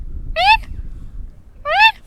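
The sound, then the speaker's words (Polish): A person imitates a tawny owl's squeaky call, giving two short, high, rising squeaks about a second apart over a faint low rumble. “Tak, no właśnie, bo puszczyki to w ogóle też są sowy, które bardzo chętnie się odzywają. One non-stop gadają, to przeważnie są takie piski, które możemy usłyszeć.”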